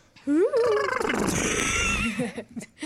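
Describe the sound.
A person on a radio program imitates a horse's whinny with one loud, drawn-out vocal call that rises in pitch, then turns raspy and quavering for about two seconds before trailing off into short breaths.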